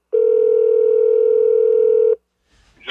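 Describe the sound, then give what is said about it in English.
A phone dial tone played over speakerphone: a steady, unbroken buzzy hum lasting about two seconds, then cutting off abruptly into silence before a faint rustle and the start of a voice. “so I put my phone on speaker and...”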